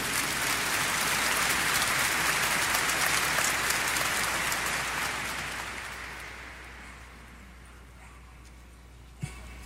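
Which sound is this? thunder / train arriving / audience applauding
audience applauding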